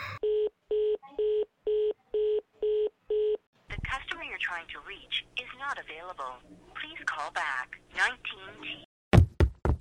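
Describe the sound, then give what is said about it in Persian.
A telephone dials with seven evenly spaced electronic beeps, then a voice talks for a few seconds before the call cuts off abruptly with a couple of sharp clicks. “چرا تلفن قطع شد؟”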